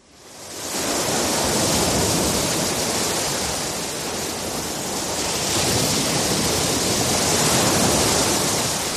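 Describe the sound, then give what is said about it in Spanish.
Surf washing steadily onto a beach, a full hissing roar that fades in and then swells gently as waves break and draw back, with no voices. “Son las olas del mar.”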